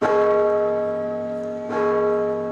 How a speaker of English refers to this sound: As the bells ring out from the majestic cathedral in Mexico City's downtown Zócalo Plaza